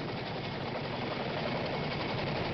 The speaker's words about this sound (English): The Rangers are located in a remote part of Helmand Province. Weekly supplies are airlifted by a Chinook helicopter. they record its arrival.